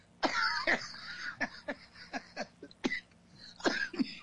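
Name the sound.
coughing and wheezing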